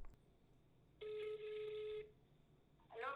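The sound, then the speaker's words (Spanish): A single steady ringback tone from an outgoing phone call to a great-grandmother with poor signal sounds for about a second over faint background hiss, then a voice briefly answers at the end. “Voy a llamar por teléfono a mi bisabuela porque no tiene buena señal.”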